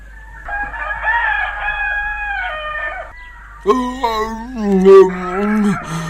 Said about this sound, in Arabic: الويل لك أيها الديك، مرة أخرى أصبح الصبح والديك يزعجنا بصوته الكريم، ولا أدري كيف أتصرف معه.